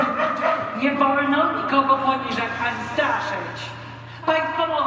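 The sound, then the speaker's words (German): A man's voice growls and barks like a dog in a stage play, a string of rough vocal bursts, with other voiced sounds running continuously underneath. “Oft steht er am Rand des Geschehens, schildert als Erzähler die Umstände, entwickelt ein manchmal sogar sadomasochistisches Verhältnis zu der von ihm erfundenen Figur oder knurrt und bellt wie ein Hund ins Spiel hinein.”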